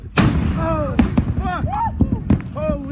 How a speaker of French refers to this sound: Et on entendrait le bruit de l'explosion dans cette vidéo prise d'une île du Pacifique.